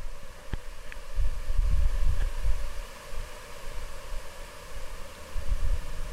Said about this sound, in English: I didn't realize it at the time, but these swarming insects were in fact brine flies, millions, maybe billions of them.